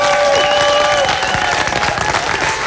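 A crowd applauds steadily at an outdoor park festival in 2017 in fine weather. Dense clapping fills the whole moment, with a few whistles and cheers rising above it, fairly loud.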